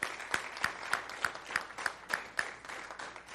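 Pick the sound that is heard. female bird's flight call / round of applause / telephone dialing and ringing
round of applause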